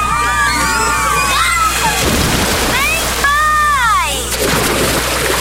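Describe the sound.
Water sloshes and splashes in a few bursts at a water park while excited children's voices shout and squeal over a steady, busy background, like a lively pool crowd.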